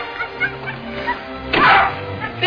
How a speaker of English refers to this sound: can't you take that dog away? Oh, time somewhere where we can't hear him. Oh, don't pay no heed on him, miss.